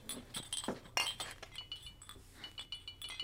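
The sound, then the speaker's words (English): Glass jars of antibiotics clink together repeatedly as they are loaded up with cloth put between them, in quick, irregular bursts of bright ringing taps, with a brief louder rattle near the start and quieter shuffling clinks continuing throughout. “Here, put this cloth in between and don't break the glass jars.”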